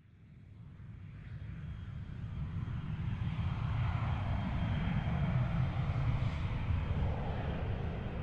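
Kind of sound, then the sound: vehicle, airplane flying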